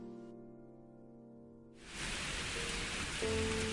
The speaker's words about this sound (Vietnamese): Trời tối sầm, gió thổi mạnh cuốn phăng bụi đường. Tiếng sấm nổ đùng đoàn, chớp giật liên hồi. Cơn mưa rào bất chợt kéo đến.